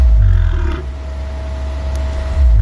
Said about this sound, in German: Das ist ein Vogel.